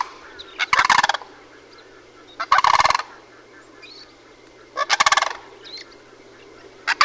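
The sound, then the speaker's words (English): Loud, rattling sandhill crane alarm calls from a male and a female leaping into the air in turn as a bear approaches through the grass, bursting out in four harsh, rolling volleys with short pauses between them and a faint background hum, no voices. “And at that point, the cranes began leaping into the air, first the male, then the female, then the male again, back and forth, and vocalizing their alarm calls.”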